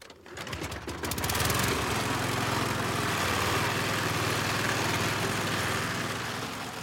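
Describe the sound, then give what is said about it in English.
A man starts a lawnmower. The engine sputters and catches within the first second or so, then settles into a loud, steady drone with a buzzy rattling hum and no voices. “Man starts a lawnmower.”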